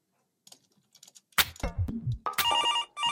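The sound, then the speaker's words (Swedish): A few quiet keyboard taps, then a loud clatter as a phone is picked up to call a Löven hockey player ahead of the playoffs, followed by a steady electronic ringtone with repeating high-pitched tones, clear. “Jag tänker att vi tar och slår honom en signal för att kolla läget lite grann så här inför slutspelet.”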